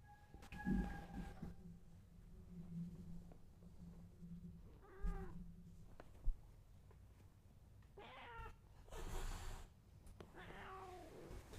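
A cat meows several times at irregular intervals, drawn-out, over a low steady background hum with a few small knocks; no one speaks.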